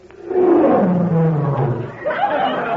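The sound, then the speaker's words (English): A loud, sustained roar sound effect, deep and growling with a falling pitch, lasting a couple of seconds before a second rising snarl near the end, presented as the Tigris River roaring; no talking over it. “That's the Tigris. It roared.”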